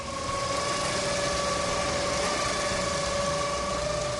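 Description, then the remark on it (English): A blue twin-turbo Ford Mustang drag car engine idles steadily, a constant rumble with a faint high whine running through it, unbroken for the whole stretch with no voices. “The Blue Beast, what I call it. Blue Beast. Ford Mustang. Twin turbo, by the way.”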